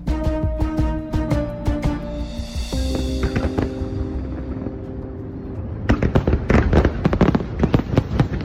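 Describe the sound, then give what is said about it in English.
Fireworks from a five-minute Macy's Independence Day show in New York City pop and crackle in rapid bursts, with a sustained tonal hum beneath at first, then a dense flurry of sharp bangs near the end, loud. “Macy's has been hosting five-minute fireworks shows at undisclosed locations around New York City to celebrate Independence Day this week.”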